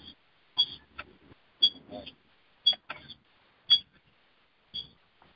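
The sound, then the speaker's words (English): An electronic timer beeps repeatedly, with high, short tones about once per second, five in a row, while murmuring voices and shuffling sounds fill the gaps between beeps. “Timer's going off.”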